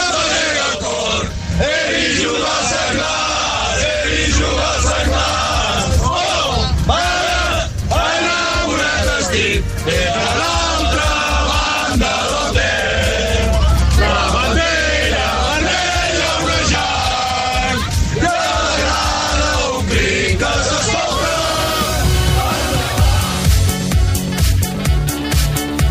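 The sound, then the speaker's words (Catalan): A packed busload of Senglars de Torroella fans chants and shouts loudly and continuously inside a bus on the way to the Camp de la Foixarda in Barcelona, voices overlapping in rowdy rhythmic cheers with a low engine rumble underneath. “hem col·locat un micròfon dins un autobús per escoltar una mica quin és l'ambient que es respirava a l'interior dels autobusos”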